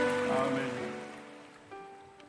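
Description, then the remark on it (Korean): An audience applauding for the glory of the Lord during a worship broadcast: a dense, crackling wash of clapping that gradually fades over a couple of seconds, with sustained keyboard chords ringing underneath. “주님의 영광의 박수 올려주실까요?”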